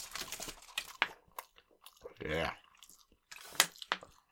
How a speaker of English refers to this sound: Took too big of bites and I was going to give myself hiccups if I didn't drink some water. That's what happened.